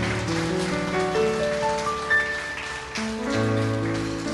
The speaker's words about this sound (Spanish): Dale la ofrenda de palmas a Él, hazlo fuerte.